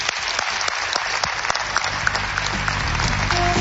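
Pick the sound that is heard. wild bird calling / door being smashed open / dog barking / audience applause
audience applause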